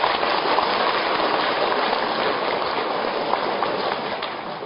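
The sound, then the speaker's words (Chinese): An audience applauds listeners who brought relatives and friends: a dense, even patter of many hands clapping at once for several seconds, holding a constant loudness before easing slightly at the end. No one speaks over it. “所以台长在这里提议，为我们今天带很多亲戚朋友来的慈悲的听众朋友们，大家给他鼓鼓掌，谢谢他们。”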